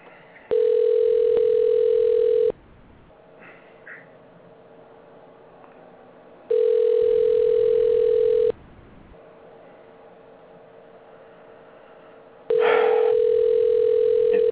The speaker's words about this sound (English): Actually, the theme song for this show is a ringing telephone and just rings and rings and rings. That would be a nice song.